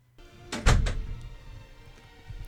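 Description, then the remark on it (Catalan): An office door opens with a quick rattle of clicks and a dull thump as an older woman enters, then the room settles into quiet background noise. “S'obre la porta i entra una senyora de certa edat.”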